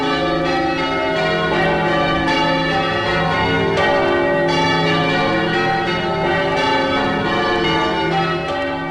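Bells of St Paul's Cathedral in Melbourne, recorded in 1961, ringing a change-ringing pattern of Stedman Doubles: a dense, continuous clangor of overlapping tolls with rich ringing overtones, loud and steady throughout with no voices.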